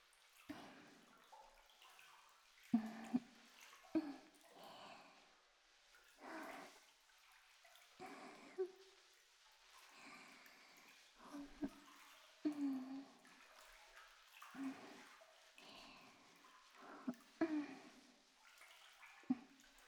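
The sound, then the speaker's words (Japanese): Soft, wet squelching of soapy foam being rubbed gently over softened, wet skin, using the slipperiness of the foam, repeating in slow, steady strokes, with no voices. “こうして泡のぬめりを利用して優しく優しくこすっていきますね。”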